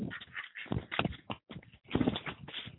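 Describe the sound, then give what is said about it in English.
Ducks flap their wings in a duck pen, an irregular run of soft whooshing bursts that rise and fall, with brief pauses between the flurries. “Lot of flapping, little talking.”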